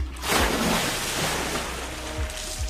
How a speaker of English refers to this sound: The trench wasn't dry. A solid river of ice-cold water running through it. We had a lot of snowfall on the mountain, but last week it was unexpectedly warmer, and I guess that explained the rushing water.